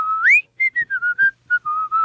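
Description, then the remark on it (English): A person whistles a TV show theme song, a short, bouncy tune with a rising swoop followed by a quick string of clipped notes and a few held tones, clear and fairly loud with no talking. “And that was his theme song, in case anybody listening is wondering. He used to whistle every day, come in, actor dressed like a cop with the billy club.”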